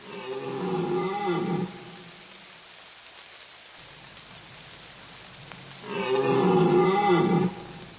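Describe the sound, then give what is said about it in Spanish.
Two loud, drawn-out bellows from male deer in rut among the trees of a forest in autumn, one at the start and one near the end, deep and roaring, with steady rain pattering in between. “Los inconfundibles bramidos de los ciervos machos se escuchan entre los árboles.”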